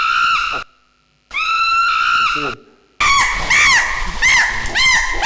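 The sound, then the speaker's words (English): An animal screams as it is attacked: two long, shrill, sustained cries with brief silences between, then a burst of loud, wavering screams that rise and fall rapidly, intense. “that's a victim scream who's being attacked. Now the same victim, the same animal being attacked, but with a powerful audience nearby.”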